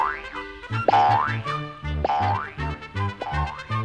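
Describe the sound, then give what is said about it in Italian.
Three springy cartoon boing sounds for Tigger bouncing ahead on a walk in the wood, each a rising then wobbling tone, over a bouncy musical backing with plucked bass notes, loud and rhythmic with no voices. “Tigro andò avanti a saltelloni.”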